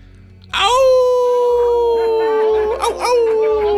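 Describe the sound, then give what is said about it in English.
A person lets out a long, loud wolf-like howl, a single sustained tone that wavers and bends slightly in pitch for several seconds, clear. “Full moon? What are you, a wolf man or something?”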